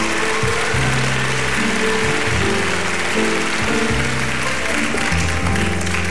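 Applause from an audience fills the whole stretch, a dense, steady patter of many hands clapping at a loud, even level with no talking over it.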